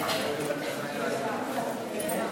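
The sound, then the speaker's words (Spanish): A crowd applauds in a steady, dense wash of clapping that holds at an even loudness from start to finish, with no pauses or swells. “Señores, qué aplauso.”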